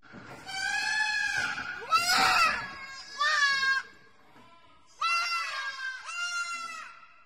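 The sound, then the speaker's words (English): Lambs scream in a series of loud, high, wavering bleats, about five cries in close succession with short pauses between, with no talking. “This is the screams of lambs.”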